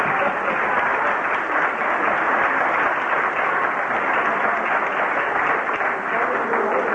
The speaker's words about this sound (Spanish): Ese aplauso